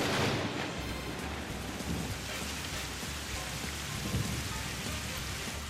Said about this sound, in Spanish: Ahí estás, bajo la lluvia. Sí, estoy aquí bajo la lluvia.